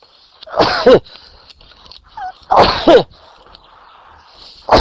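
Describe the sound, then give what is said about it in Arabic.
Two loud, explosive sneezes burst out about two seconds apart, with the start of another cut off at the end, over a quiet background hum. “الحمد لله. يرحمكم الله. يهديكم الله.”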